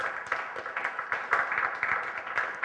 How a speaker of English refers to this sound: I'm just going to warn you, that better not be the best clap I get all my sermon.